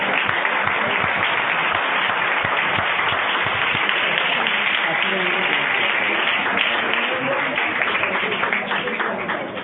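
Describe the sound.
A crowd applauds a speaker steadily for about ten seconds before a short five-minute break, a dense, even wash of clapping that stays loud throughout and eases off slightly at the very end, with some voices mixed in.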